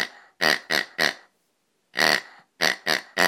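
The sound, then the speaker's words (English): A rubber pig toy called Rubber Piggy squeaks in loud, wheezy honks: three quick squeezes, a pause, one longer squeal, then three more in a steady rhythm. No voices. “So this is Rubber Piggy.”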